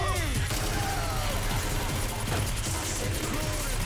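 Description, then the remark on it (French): Rapid gunfire crackles almost nonstop in a dense, loud barrage during a film shootout scene lasting over two minutes, sharp bursts stacking over each other amid a chaotic din of movie-style action sounds, techno music and faint shouting underneath. “Cela rajoute au réalisme de la séquence, dont quelques coups de feu s'enchaînent pendant plus de 2 minutes.”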